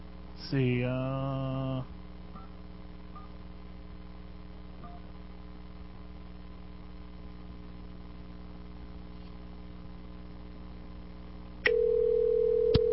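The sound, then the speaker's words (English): A telephone line opens with a brief harsh electronic tone, then a low steady hum, and finally a loud, unbroken dial tone that holds to the end. No one speaks. “Okay, got a dial tone, so we'll call him.”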